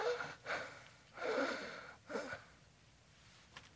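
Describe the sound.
A voice imitates the labored, gasping breaths of a crucified person pulling up on the nails to breathe: four strained, raspy inhalations and exhalations in uneven succession, moderately loud, trailing off into a faint final breath, with no talking.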